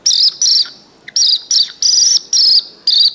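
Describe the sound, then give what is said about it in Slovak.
A fox lure imitating the call of a tiny thrush with a 5 cm tail flying up from nettles in May or June, used for young foxes: about seven loud, high, buzzy chirps in quick, slightly uneven bursts, with no voices. “To všetci poznáte, v máji, júni, malinké drozdíky s takým 5 cm chvostikom, keď vám zo žihlavy vyletí, tak sa takto ozve.”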